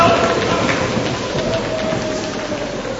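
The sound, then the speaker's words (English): A group of children imitate a rainstorm with rain, waves and thunder, producing a steady, dense rushing patter like heavy rain that stays fairly loud and even throughout, with faint voices mixed in. “And the rains fall, and the waves come, and there's thunder!”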